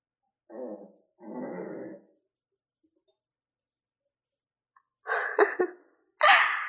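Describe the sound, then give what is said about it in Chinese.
A person imitates an angry dog, growling in four rough, throaty bursts: two lower, gravelly ones, a pause, then two sharper, louder snarls. Nobody speaks. “你还会学狗叫了？不过你学的不太像啊。这个声音是狗狗生气发怒的时候才会发出的声音。”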